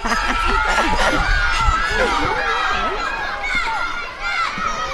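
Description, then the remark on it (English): A crowd cheers and shouts at a sports event, many overlapping voices, some high-pitched, forming a loud, steady din that holds for about five seconds. “Keep cheering.”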